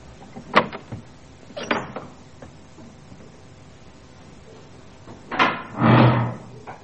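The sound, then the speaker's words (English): The door of Cochwillan Hall, a restored 15th-century house near Talavant in Wales, is opened and closed: two short knocks or clicks in the first two seconds, a pause, then a louder, longer swinging thud of the door shutting. The door leads directly into the hall. “We've come in through the door directly into the hall, which occupies most of the entire building.”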